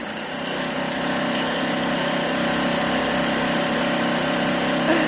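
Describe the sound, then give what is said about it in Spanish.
A steady, loud mechanical drone of a pneumatic drill at street roadworks in Madrid runs continuously throughout, engine-like and unbroken, with no voices present. “Y es que este sonido de la taladradora, bueno, pues va a ser el habitual durante muchos meses en muchas zonas de Madrid.”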